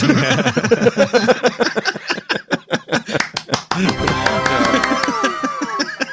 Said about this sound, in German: Man klatscht nicht für sich selber.